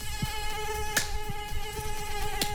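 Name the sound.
mosquito buzzing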